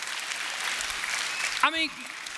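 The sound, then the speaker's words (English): Steady audience applause, a dense crackle of many hands clapping at an even level, with a short voice rising briefly over it near the end. “Yeah, you can go ahead and applaud that.”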